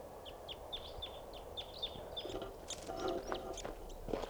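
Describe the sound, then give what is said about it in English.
A wild crossbill chitters in flight: a quick, regular run of short, high chirps over a steady background hiss, followed by scattered sharper calls and clicks toward the end. No one speaks. “Bird chittering there in flight.”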